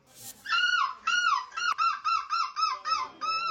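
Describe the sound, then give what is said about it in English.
A man, a seagull-screeching contest champion in Belgium, mimics a seagull, letting out a rapid series of about eight loud, shrill, squawking cries in quick rhythmic succession, clear, with no other talking. “Yeah, he won the Crown's new seagull screeching champion in Belgium.”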